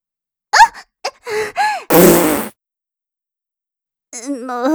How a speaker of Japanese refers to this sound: もう少し優しく拭いてください。おなら出ちゃったじゃないですか。